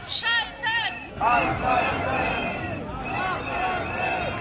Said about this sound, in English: The annual shipment is always a protest magnet, but this year there was even wider support as the train load, which protesters dubbed Chernobyl on wheels, drew huge crowds shouting, "Shut the plants down."